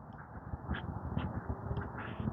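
crows cawing

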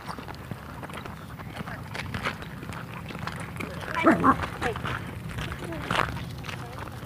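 dog barking

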